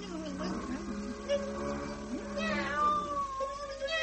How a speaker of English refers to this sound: And now, in two shakes of that tail, Mim's become a furious cat. Better change quickly, Merlin, or she'll have you.